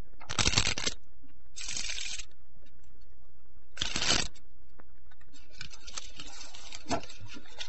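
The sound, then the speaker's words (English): Playing cards being shuffled for a poker game, several quick riffling bursts with short pauses between, ending in a longer, looser stretch of card handling with no one speaking. “We were smart, but Ben Foster was smarter, even at shuffling.”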